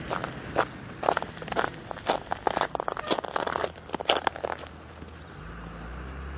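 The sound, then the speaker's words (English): Footsteps crunch steadily over icy ground, a series of sharp, brittle crackles, about a dozen steps in an even walking rhythm before they stop and a low rumble remains. “Crunchy bed underfoot.”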